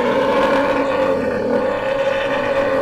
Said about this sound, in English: And behind you, you hear the sound of these footsteps and a low, weird, growling sound.